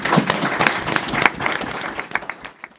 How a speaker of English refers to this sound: I could ask for a round of applause.